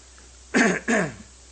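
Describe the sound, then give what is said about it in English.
A speaker having trouble with their throat clears it twice in quick succession, two short, rough bursts with a brief gap between them, followed by quiet. “I'm having trouble with my throat here.”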